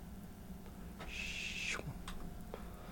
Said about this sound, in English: Hold on. I'm cleaning off the record right now. A little dusty.